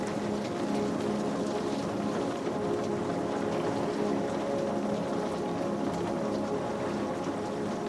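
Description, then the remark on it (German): Soft, steady rain patters continuously, a dense, even hiss of drops with no voices, holding at a gentle, unchanging level throughout. “Das leise Prasseln des Regens begleitet dich wie eine sanfte Melodie.”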